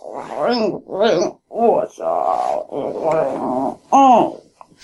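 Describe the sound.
A voice imitates a cute Ursaring bear growl: a string of about six short, throaty grumbles with wavering, rising-and-falling pitch, fairly loud, separated by brief pauses.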